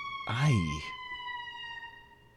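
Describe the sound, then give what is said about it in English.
An emergency siren outside, which stops in front of the speaker's house, holds a steady, high, even tone through the whole stretch. A brief, louder wavering burst that sounds like a voice rises over it near the start. “You never really want the siren to stop in front of your house. That one just did.”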